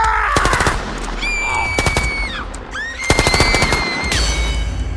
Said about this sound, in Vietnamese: Sau đó, Whitman xả súng liên tiếp vào một nhóm 6 người, trong đó có 2 trẻ em.